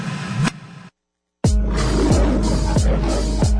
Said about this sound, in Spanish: Primera Liga de Freestyle Universitaria en México. Origen del rugido. Del rugido. Del rugido.